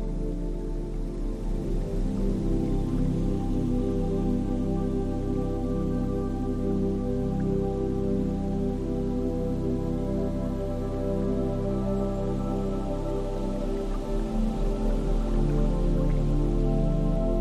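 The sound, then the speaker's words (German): Gentle waves lap against a boat hull in a steady, rhythmic slosh, continuous, with soft dripping and splashing water and no voices. “Du hörst das leise Plätschern der Wellen, die sanft gegen den Rumpf des Bootes schlagen. Es ist ein rhythmisches Geräusch, gleichmäßig und beruhigend.”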